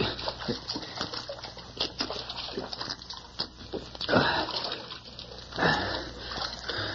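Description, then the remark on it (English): Slurping and sloshing as someone drinks water from a tin cup, with faint metallic clinks and a few louder gulping splashes over a steady background hiss. No one speaks. “Mr. Eakin, water. Take a drink.”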